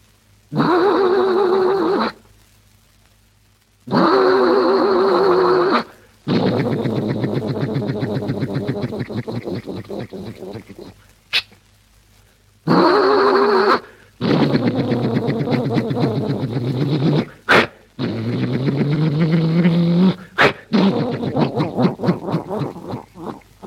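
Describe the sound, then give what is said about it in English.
A single voice imitates an old Ford car, alternating loud wheezing honk-like bursts with sputtering, rattling engine noises, separated by short silences, fairly loud, with no ordinary speech. “First, an old Ford car.”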